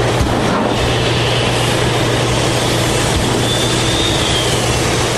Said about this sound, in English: But there are no plans to shut down the 40-year-old Tilden Mine, and Cliffs says it will keep running a huge ore processing facility. Inside that hot, dirty, and deafening building, giant machines rumble, rattle, and whistle.